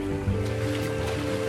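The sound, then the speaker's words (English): Water splashes and churns steadily as a boy runs across a shallow, rocky creek in the jungle, with a sustained low tonal hum running underneath throughout. “The boy crosses the water.”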